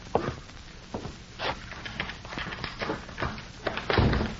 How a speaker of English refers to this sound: Morley unlocked the door and stepped inside